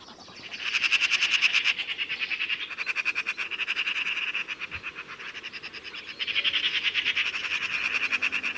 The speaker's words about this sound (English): To the right, a noisy group of Eurasian magpies, screeching non-stop and chasing each other, also wait for the large carrion birds to finish their feast.